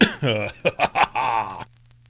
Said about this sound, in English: I really apologize for coughing in your ear. I didn't expect that to happen.